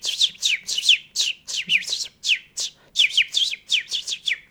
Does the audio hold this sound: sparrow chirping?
yes